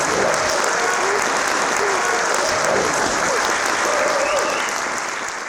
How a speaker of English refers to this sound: Let's give these new brothers a round of applause as they take their seats.